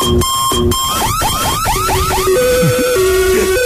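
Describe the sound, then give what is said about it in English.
A loud electronic alarm clock rings with a jumble of tones: two quick buzzing pulses, then a run of repeated swooping chirps over steady tones that step up and down in pitch. “This is my sort of alarm that I need. When I used to do the breakfast show here, yeah. This was my alarm.”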